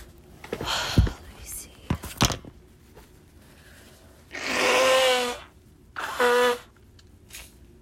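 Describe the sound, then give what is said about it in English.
Someone blows their nose into a tissue with two forceful, breathy honks, a longer one and then a shorter one, after some crinkly rustling and a few soft taps. “You guys are gonna hear me blow my nose.”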